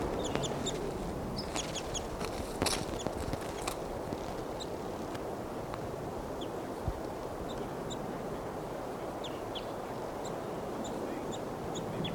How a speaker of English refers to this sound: And the wild bird's chittering. That bird was collected. It's a juvenile and it'll be number 737.